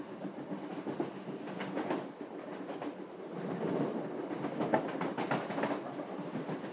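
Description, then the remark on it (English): A subway train clatters steadily along the rails, a dense, continuous rumble with rhythmic clicking bursts as the wheels cross joints, heard from inside the moving carriage with no voices. “You can hear a pin drop, at least when the train is sitting at a station and not screaming through a tunnel.”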